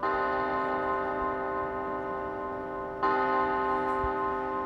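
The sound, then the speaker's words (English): A large monastery bell, the 8 p.m. bell that begins the night silence, tolls with a long, humming resonance, then is struck again partway through, its deep ringing tones hanging in the air with no voices present. “What they call the night silence begins with the 8 p.m. bell.”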